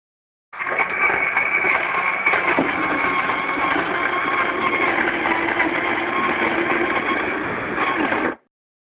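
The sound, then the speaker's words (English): An electric coffee grinder grinds coffee for making coffee, whirring loudly and steadily for about eight seconds, a high buzzing motor whine with a gritty grinding texture, starting and stopping abruptly with no voices. “first we need some electronica or grinder.”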